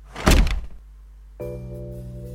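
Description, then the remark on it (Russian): A heavy door slams shut behind a group stepping into a dark passage, one loud thud that quickly dies away; after a brief pause, a steady low mechanical hum starts and continues. “остальные последовали за ней, и дверь захлопнулась.”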